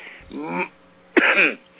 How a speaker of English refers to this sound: I'm sorry. I'm coughing.